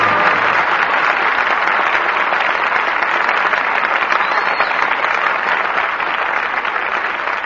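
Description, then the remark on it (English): Sustained applause from a large audience for the night's radio performance, calling stars Norma Shearer, Walter Pidgeon and Adolphe Mongeau back to the footlights; a dense, steady wash of clapping that stays loud and even throughout without any voices breaking through. “But your applause for tonight's performance calls our stars back to the footlights.”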